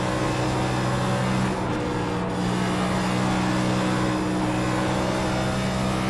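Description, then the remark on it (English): A race car engine roars steadily on a track during a race, its loud droning pitch holding nearly constant with a brief dip partway through, and no voices. “God, this car is getting... I got stupid tight on the bottom there.”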